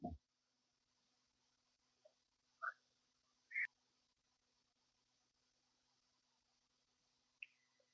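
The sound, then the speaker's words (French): A few short, scattered frog calls sound at irregular intervals against a faint, steady nighttime hiss. The calls are brief, and no one speaks. “Et Grenouille voyait être avec nous une bonne partie de la nuit, j'espère.”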